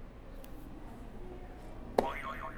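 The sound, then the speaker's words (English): After quiet background hiss, a buzzer is hit: a sharp click followed by a springy, wobbling tone that warbles up and down for about half a second. “You can go ahead and hit another buzzer for me.”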